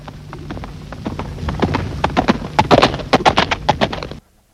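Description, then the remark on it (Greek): The hooves of a white horse, Perla, clip-clop in a steady, quick rhythm, growing louder over a few seconds before stopping abruptly. No voices accompany the hoofbeats. “Πού είσαι, άλογο μου? Έρχομαι!”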